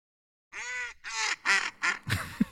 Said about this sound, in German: Stockente können wir mal hören.